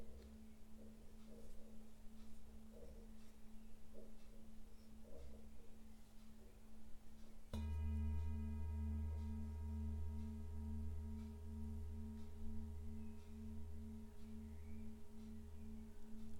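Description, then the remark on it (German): A meditation gong is struck once, its deep, rich tone blooming and then sustaining with shimmering overtones and a slow, pulsing hum as it rings out for several seconds. “Und wenn du den Gong hörst, kannst du ihn als Wegweiser in den gegenwärtigen Moment nutzen.”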